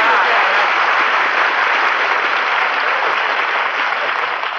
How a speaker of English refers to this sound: I appreciate that, folks. You know, applause is food for an actor, so thanks for the lunch.